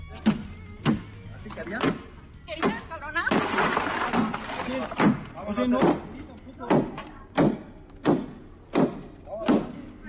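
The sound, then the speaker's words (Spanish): A string of about a dozen heavy, hollow blows strikes a car body in an uneven rhythm, with a noisy crash of the driver's side-window glass breaking partway through and muffled voices underneath. “Esos golpes son, supongo, al auto. Al auto, sí. rompió el vidrio lateral.”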